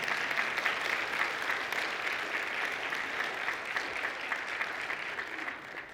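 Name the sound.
audience clapping loudly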